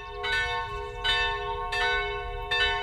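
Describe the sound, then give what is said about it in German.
Church bells in Westhofen, rung by hand, ring steadily with four clear strikes about every 0.7 seconds, rich sustained overtones blending together, loud with no voices. “Echte Handarbeit gibt es also in Westhofen zu leisten, wenn die Glocken läuten.”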